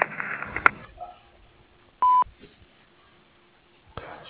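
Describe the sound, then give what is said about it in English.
A single loud, steady electronic tone sounds for about a quarter second, the classic answering machine beep, preceded by brief muffled noise and followed by quiet line hiss. “Please leave your name, telephone number, and a brief message after the beep, and we'll promptly return your call.”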